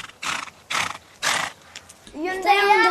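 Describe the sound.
Three short, breathy snorts are followed by a loud, shaky, rising-and-falling horse whinny with a quavering, vibrato-like tremble, clear with no talking.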